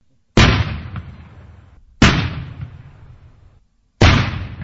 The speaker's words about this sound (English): He counts the explosions and afterwards inspects the fragments to make sure the mines have been completely destroyed.